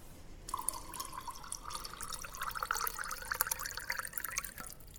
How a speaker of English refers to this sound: I mean, I know why you want to add the water after the arak, because of this. Look, this is very beautiful. Look at the color.